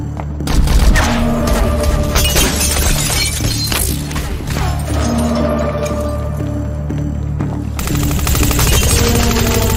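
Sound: gunshots being fired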